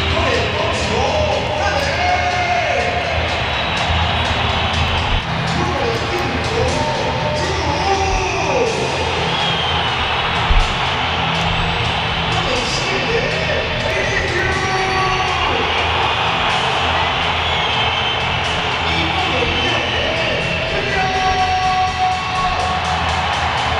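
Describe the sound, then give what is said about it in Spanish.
A large stadium crowd at a Real Madrid match roars steadily for the whole stretch as the lineups are announced, cheering and clapping with shrill whistles rising and falling over the dense, constant wall of noise; players like Mbappé, Asensio and Courtois are applauded while Bellingham, Vinicius, Valverde and Camavinga are whistled. “También han tenido aplausos jugadores como Mbappé, jugadores como Asensio, jugadores como Thibaut Courtois.”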